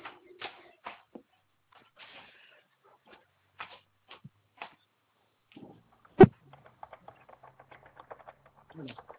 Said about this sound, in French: Alors, si vous me permettez, je vais prendre un stylo pour le coup et renoter.